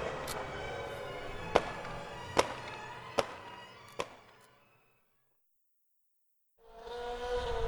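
Four sharp firework bangs go off at a steady pace over a dense, rumbling background roar, then everything drops to silence before loud noise resumes.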